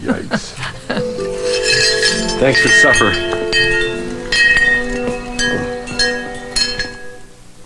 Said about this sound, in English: He backs into wind chimes.